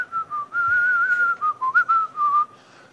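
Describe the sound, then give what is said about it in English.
Someone whistles a wavering tune, the clear pitch sliding between notes in a string of short phrases with brief breaks, no talking alongside it. “Verse 16 and 17, what are you sitting by the campfire whistling?”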